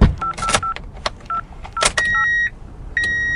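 A quick series of touch-tone keypad beeps with soft clicks as a number is dialed, followed by two longer electronic ringing tones as the call rings out, clear with no voices.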